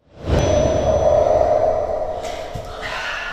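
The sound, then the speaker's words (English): A low, sustained whoosh swells in quickly and rushes steadily for about three seconds, with a faint hum running through it, then softens and thins slightly toward the end. It plays as actors rehearsing the play May 35th, about the Tiananmen Square massacre, at Amnesty International in London push back against an unseen force. “They walk into the center of the room slowly before pushing back against an unseen force as a low-pitched whooshing sound can be heard.”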